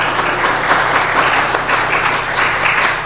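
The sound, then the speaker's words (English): A church audience applauds steadily during a service, many hands clapping in a dense, loud, even patter that holds for about three seconds with no voices rising above it. “So to all of you, I applaud all of you.”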